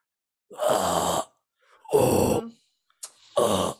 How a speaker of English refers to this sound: I'm practicing my deathcore scream. I'm practicing my guttural screaming.